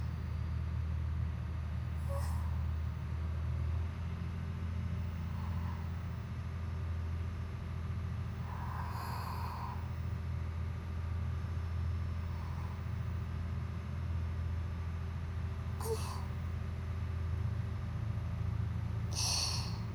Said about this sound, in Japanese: 船室内でもこれほど豊かに響いてくるディーゼルエンジンの音も、スイカには大変に心地よいものと響きます。